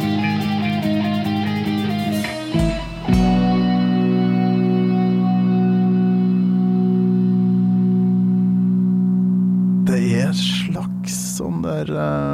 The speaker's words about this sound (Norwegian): Gong eller noe sånt som ligger i bakgrunnen her, ja. Langt i det fjerne.